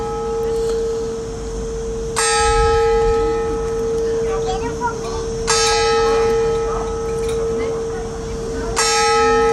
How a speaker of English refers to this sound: Some lovely church bells there